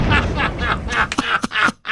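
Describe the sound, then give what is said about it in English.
A voice imitates an explosion with a series of rough, breathy bursts, fairly loud, each one crackling and rumbling before a sudden cutoff at the end. “That was a great explosion.”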